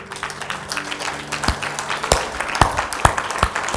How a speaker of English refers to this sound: Oh, I don't know. Why was I clapping for it? Praise God. Let's give the Lord another great big hand.